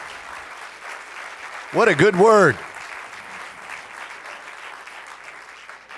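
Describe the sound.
Steady audience applause for a speaker fills the whole clip, a dense hiss of many hands clapping, while a man briefly speaks over it partway through.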